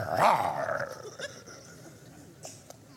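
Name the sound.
voice imitating a growl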